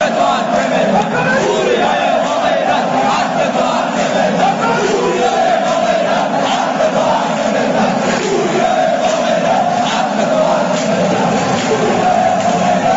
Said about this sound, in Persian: دیروزم میدیدم در برنامه شهرآورد تهران در پرسپولیس و استقلال جمع کثیری از فوتبال دوستان ایرانی آقای وریا قفوری رو تشویق میکردن.